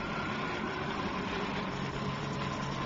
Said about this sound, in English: What? Helicopter! Hey, you're right.